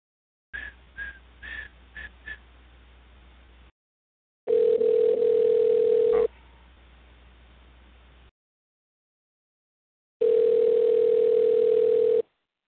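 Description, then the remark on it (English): A few quick dialing beeps, then the steady buzzing ring of an outgoing phone call to Alpha AC and Heating, an air conditioning firm, two long rings separated by silence, heard over a thin telephone line. “As now we wait for it to start ringing.”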